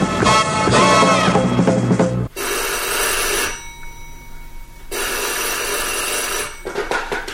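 A telephone bell rings loudly in two long bursts with a brief pause between them, preceded by a short stretch of rich, tonal sound, clear with no talking.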